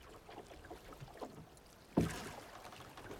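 Oars dip and pull a small boat, La Luna, rowed by a big man across a calm sea under a starry night sky, with soft lapping throughout and one clearer splash of a stroke partway through. No one speaks.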